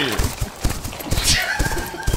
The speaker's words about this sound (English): Oh, no! Horse noise! Horse noise! Horse!